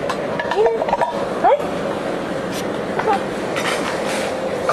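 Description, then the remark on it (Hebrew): A spoon clinks lightly inside a red toy kettle, a handful of short, bright metallic taps at irregular intervals, with soft voice sounds and a steady background hum underneath. “את רוצה לשים כפית בפנים?”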